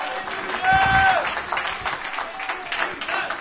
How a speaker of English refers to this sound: Anybody know his name? Clap your hands and give God praise this morning.